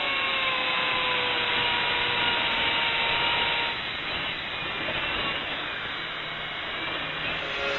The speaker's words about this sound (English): And that's why they've set up that stuff there. They're drilling for oil. The diner is sitting on top of oil. And they're drilling!